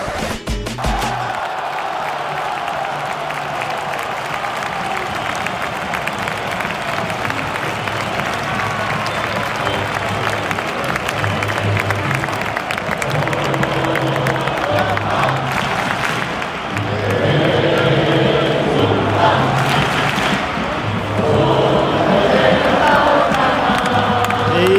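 A packed stadium crowd roars and whistles without pause at the final whistle of the FC Barcelona vs Espanyol derby, won 1-0 by Barcelona in Xavi Hernandez's debut as coach, a dense, loud wall of cheering and shrill piping that swells even louder in the last few seconds.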